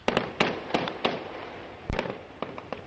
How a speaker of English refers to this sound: This is purportedly gunfire from the besieged city of Hama. It's from an amateur video that was posted today on the internet. The video could not be independently verified.